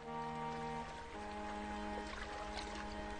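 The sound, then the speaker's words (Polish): Water pours steadily from a spring into a container, a continuous splashing rush with a ringing, hollow resonance as the vessel fills. No one speaks. “Wodę biorę. 2-3 razy w tygodniu. Przyjeżdżam, bo jest dobra woda.”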